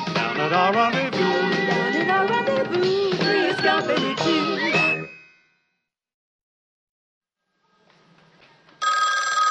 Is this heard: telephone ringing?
yes